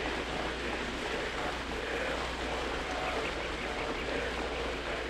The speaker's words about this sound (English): Listen to my voice as you listen to the sound of the rain. The sound of the rain needs no translation, no explanation.